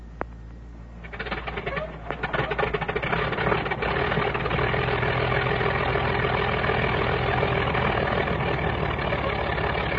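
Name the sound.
airplane engine warming up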